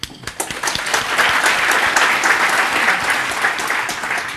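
An audience breaks into a round of applause, many hands clapping in a dense, steady wash of sound that starts with a few sharp claps and swells to a sustained, fairly loud roar.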